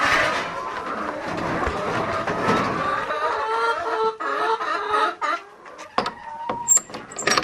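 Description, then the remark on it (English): A chicken, number 86, just sampled, clucks and murmurs in a steady stream of throaty calls as it is slipped outside through a sliding door, later breaking into sharper, scattered clucks and squawks, with no one speaking. “And then through this sliding door, I'll just slip the chicken outside so that I know that it's been done and so that I don't pick it up and do it again.”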